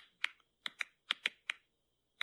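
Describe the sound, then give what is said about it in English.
Sharp clicking and popping sounds from plants, about eight crisp snaps in quick, irregular succession, some in close pairs, with brief silences between; clear, no talking. “You hear that? Yeah, is it like tapping? It's like clicking or like popping popcorn, they compared it to.”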